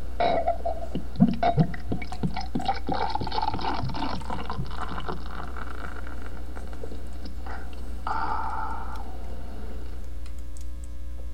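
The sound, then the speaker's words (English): Perrier sparkling water pours into a glass for a few seconds, with crackling fizz and clinks, then a softer bubbling hiss as the carbonation settles. No one talks. “I'm going to have a glass of Perrier because we've been talking a lot”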